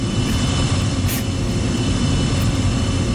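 A steady, loud roar of airplane engines during takeoff, a dense rumbling wash of noise with a strong low end that holds constant throughout, with no voices.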